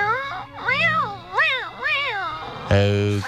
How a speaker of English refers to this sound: Oh, kitty cat, oh, cat of the Lord, you are a member of this crew and you are as restless as I to find land.